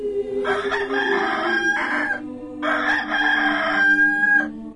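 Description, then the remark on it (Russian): A rooster crows twice in summer, waking a woman, each long cock-a-doodle-doo rising and holding before trailing off, loud over a low steady background hum. “Летом ее будят петухи.”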